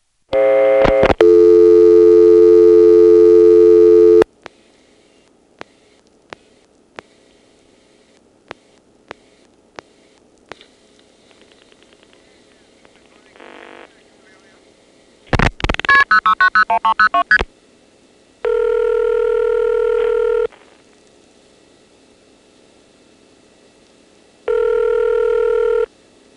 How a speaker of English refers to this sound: Here is 1 plus a 222 number as dialed from another Lorton coin phone. 222 is local from here, so it shouldn't be dialed with a 1 first. It's in Falls Church.